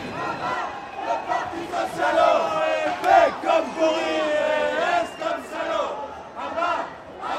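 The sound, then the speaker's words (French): Many voices chant and shout together at a street demonstration, with chants against the Socialist Party, in rhythmic, rising-and-falling bursts, a loud continuous crowd chant with overlapping calls throughout. “Ouais, il y a du monde, c'est cool.”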